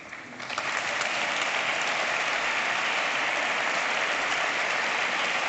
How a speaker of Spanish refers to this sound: Aplausos a las palabras de Isabel Díaz Ayuso, que les estamos ofreciendo en directo desde Onda Madrid y desde la Real Casa de Correos.